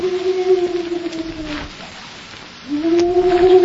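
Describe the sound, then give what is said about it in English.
A man's voice mimics a hoot owl: two long, steady, low hooting calls, the first sliding slightly downward as it fades, separated by a brief quiet gap. It comes from just outside Vane's cell at the Canyon City jailhouse. “You mean it's somebody imitating the cry of a hoot owl?”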